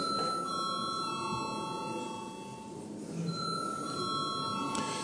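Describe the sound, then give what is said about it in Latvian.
A parliamentary chamber bell rings continuously for about five seconds to call members to vote, a steady shrill electric tone that briefly softens midway, heard over faint murmur with no one speaking. “Lūdzu zvanu.”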